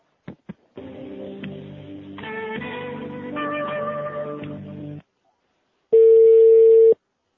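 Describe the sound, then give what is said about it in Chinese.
A couple of clicks, then a few seconds of tinny hold music over the phone line, a short silence, and a single loud, steady one-second ringback tone as a call to a hospital switchboard is transferred to the hepatobiliary surgery ward doctor. “哎，你好，请转一下那个肝胆外科那个病房医生电话。”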